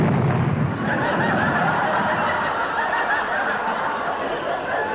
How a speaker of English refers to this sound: Did you hear something? Yes, Sid's having trouble with his car again. He's blown a gasket. Oh, yes, well, he didn't put any water in the radiator, I'll bet.